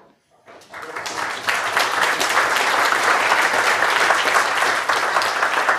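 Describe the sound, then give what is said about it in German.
An audience breaks into sustained applause at the end of a presentation, before questions, building quickly from near silence into a dense, steady wash of many hands clapping that holds loudly to the end. “Ich würde sagen, vor den Fragen kommt der Applaus.”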